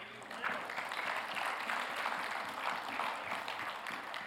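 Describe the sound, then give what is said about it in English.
A church audience breaks into applause, giving the Lord praise, a dense, steady wash of many hands clapping that holds at an even, moderate loudness for about four seconds without fading. “At a funeral, Imbar got a louder clap than what that was right then.”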